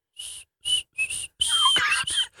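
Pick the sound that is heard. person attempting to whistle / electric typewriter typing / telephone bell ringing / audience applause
person attempting to whistle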